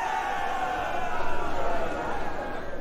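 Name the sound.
crowd cheering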